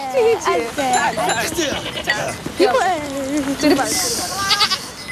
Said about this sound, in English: Some adult goats are herded past.